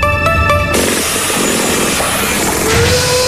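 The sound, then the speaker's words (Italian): Loud machinery and power tools run at a construction site with a concrete mixer and modern equipment, a whining engine tone at the start giving way to a dense, steady mechanical roar with no talking. “anche tu a guardare questo cantiere? Bello, eh?”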